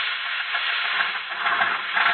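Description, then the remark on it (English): A car motor running in a steady, even drone, heard on its own with a rough, hissy texture and no clear beat or rises in speed. “Have you ever heard a motor like this one?”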